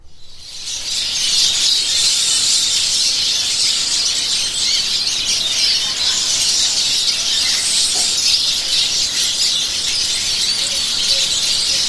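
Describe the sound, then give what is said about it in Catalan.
A flock of Eurasian siskins calls continuously, a dense, high, twittering wheeze of many overlapping voices that stays steady and fairly loud throughout, with no talking. “Anem a escoltar els lluers, a veure quins crits fan.”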